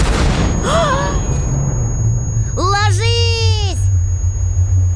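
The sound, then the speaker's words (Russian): A loud explosion as a fascist army vehicle hits a landmine, its deep, rolling rumble filling the whole scene, heavy, while voices shout urgently over it. “Машина фашистов на мину попала.”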